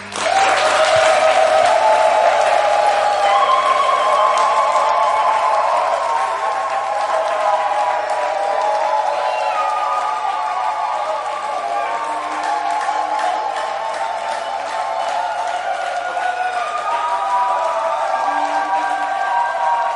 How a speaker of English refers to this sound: I want you to raise up your voice with your clapping and yelling. Welcome the word of God in power.